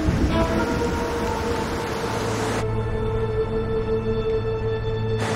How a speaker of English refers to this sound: She drives down the road in the rain.